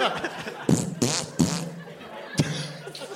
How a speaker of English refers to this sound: And you shoot her with a fart gun. Yeah, shoot her with a fart gun and yeah.